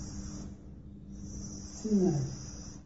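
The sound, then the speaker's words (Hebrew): A voice makes a steady, snake-like hissing 's' for the Hebrew letter samekh, with the tongue tip touching behind the front teeth and air escaping through a thin gap. It is held in two stretches with a brief pause between them, followed near the end by a short low vocal murmur. “סמך, הלשון כעורה, קצה הלשון נוגע בחלק הקדמי של הפה, מאחורי השיניים הקדמיות, ונותר רווח, בשביל שזה רווח דק שיצא ממנו האוויר, כאין לחישת נחש, זה על דרך הבדיחותה.”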